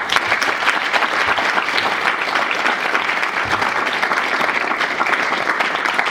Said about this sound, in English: Can you give a big round of applause, please?